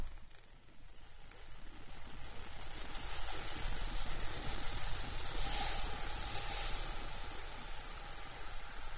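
Hundreds and thousands sprinkles pour in a steady stream, a dense, hissy pitter-patter of countless little grains that swells slightly midway and continues without a break, with no voices.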